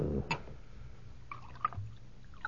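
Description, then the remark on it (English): Liquid is poured into a cup, a soft, uneven gurgle with a few faint clinks and splashes along the way. No one speaks. “Now, you drink, huh? Of course. Will you pour for me?”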